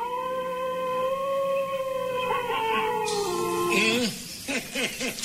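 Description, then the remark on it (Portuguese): A wolf lets out one long, sustained howl, its pitch drifting slowly before breaking into a few shorter, wavering yips at the end; clear and loud, with no voices. “9:30 em Manaus e agora o perigosíssimo, único, o lobo.”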